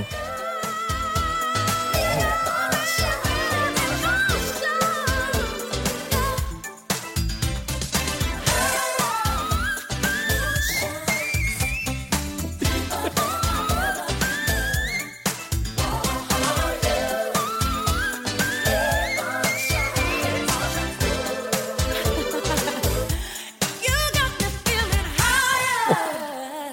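A female voice soars in extremely high whistle-register runs, quick ornamented squeaks and trills riding over a loud, full band backing track throughout.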